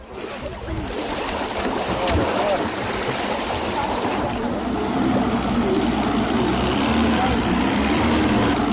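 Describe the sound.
A motorboat engine drones steadily on the river as motorboats carry passengers and cargo across in place of a ferry, mixed with rushing water and spray, loud and continuous throughout, with faint voices now and then beneath the noise.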